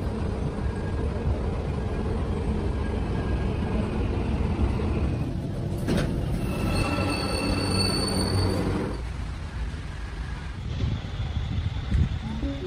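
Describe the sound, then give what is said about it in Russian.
A local electric commuter train in Istanbul rumbles steadily along the rails, heard from inside, with rattling carriages and a stretch of high metallic wheel squeal midway. Faint voices are mixed into the noise. “то есть такое местечко, находится оно довольно недалеко от центра, где-то 20 минут на местной электричке.”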